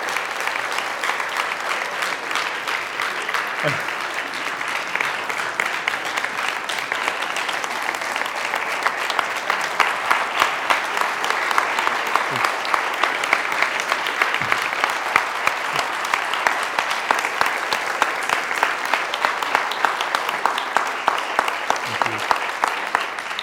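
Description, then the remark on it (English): A large audience in a church claps steadily for over twenty seconds, a dense, sustained wash of applause with a few faint low thumps underneath and no one speaking. “I waited to stop the timer on me until you were done clapping, so I get my full amount of time for the sermon.”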